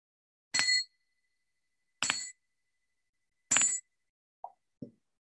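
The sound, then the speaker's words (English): A small meditation bell is struck three times at steady intervals, each strike bright and metallic with a faint lingering ring, followed by two soft, quieter taps. No one speaks. “And with the sound of the bell, let's bring our focus to the breath just for a few beats in order to let the surface distraction settle.”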